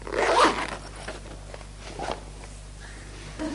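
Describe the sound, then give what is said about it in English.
A zipper on one of a bag's zip compartments is pulled open in a quick rasping burst, followed by quieter handling and a few softer zip-like scrapes against a low background hum. “It's got at least two more zip compartments here.”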